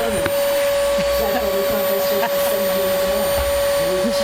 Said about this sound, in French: Chers auditeurs, vous nous appelez, c'est très sympa, mais ouais, il faut couper l'aspirateur parce qu'on ne comprend pas ce que vous dites.